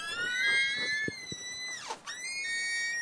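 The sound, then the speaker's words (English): A door squeaks in a long, high, whining creak with steady overtones, its pitch dipping and bending near the end, with a couple of soft knocks in the middle. “This is door squeaking.”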